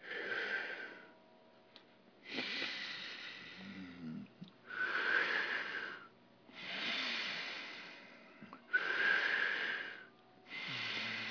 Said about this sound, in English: Now I'm breathing in through my mouth, and I'm breathing out through my nose